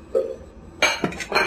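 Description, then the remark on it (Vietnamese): A metal lid is set onto a cooking pot of pomelo peel covered with water, salt and alum, to start cooking it, with a few bright, ringing clinks and clatters, starting with a soft tap and followed by louder metallic knocks as it settles. “Bắt đầu đậy nắp và nấu”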